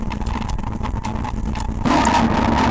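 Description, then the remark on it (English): Distorted circuit-bent keyboard sounds sent through tube distortion pedals, the Safety Valve and the Sonocurrent MT2D, with slide, grain size and morph modulated: a gritty, buzzing drone with steady pitched tones and flickering clicks, then it suddenly jumps louder and harsher near the end. No talking. “And of course our sound source is some circuit bent keyboard sounds.”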